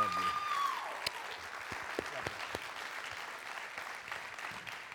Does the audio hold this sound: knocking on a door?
no